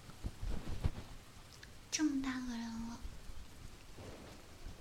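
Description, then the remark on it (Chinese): Heavy rain hisses steadily throughout, a dense wash of noise, while a woman speaks briefly over it in the middle. No clear thunder stands out. “以为是小雨，这么大的雨，还小啊？”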